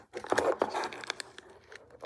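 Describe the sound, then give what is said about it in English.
A hand digs an item out of a little plastic bag: busy plastic crinkling and rustling with sharp irregular crackles and tearing-like bursts for a couple of seconds. “He's in a little plastic bag.”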